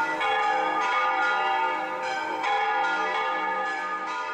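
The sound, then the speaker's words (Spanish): Many church bells across the city of Granada ring together in a dense, continuous peal, with overlapping metallic tones and repeated strikes every half second or so. The sound is loud and full, with no voices. “Todas las campanas de la ciudad tocaban.”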